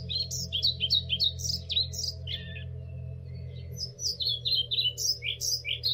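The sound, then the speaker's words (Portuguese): An unringed, migrating pied flycatcher, bound for the Gulf of Guinea for the winter, chirps in quick, high bursts of repeated notes, pausing briefly before resuming, heard clearly over a steady low hum with no voices. “O aquecimento global está, infelizmente, a afetar as populações de insetos, o que, de acordo com estudos recentes, tem feito diminuir o número de ninhadas e, por consequência, o número das populações de papa-moscas pretos.”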